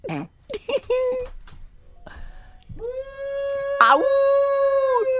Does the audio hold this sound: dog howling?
yes